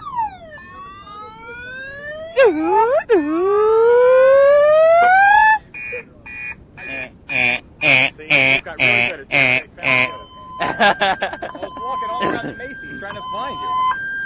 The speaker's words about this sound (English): Turn off that darn alarm! How annoying.